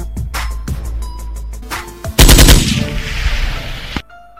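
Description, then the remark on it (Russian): A gunfire sound effect: scattered sharp shots over a low rumble, then a loud, dense burst of rapid automatic fire that roars for almost two seconds before cutting off abruptly. “А я стреляю по этим пидорам в этот момент.”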